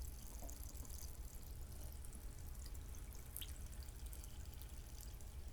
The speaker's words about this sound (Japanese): ごめんね、今炭酸水を家で作るやつを開けたんだけど、音うるさかったかな。注いでいきます。炭酸水の音だよ。